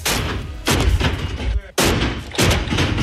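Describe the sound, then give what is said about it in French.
Barbell weights crash onto the floor of the weightlifting hall at INSEP about four times in quick succession, each a loud, booming metallic clang that rings on briefly before the next impact, as weightlifter Romain Imadouchen trains the snatch. No one speaks. “Le métal claque sur le sol de la salle d'haltérophilie de l'INSEP.”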